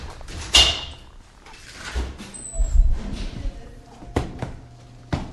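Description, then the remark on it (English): A man stamps fresh snow off his boots with heavy thumps on a hard surface, then a door swings open with a creaky scrape as he comes inside, followed by more sharp knocks and clunks. “stomps the snow off his feet and comes inside.”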